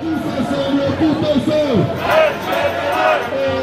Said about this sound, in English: This has become the soundtrack to this winter in France. Protests. Loud, colourful, sometimes even tuneful.